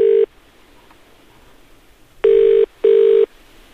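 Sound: telephone ringing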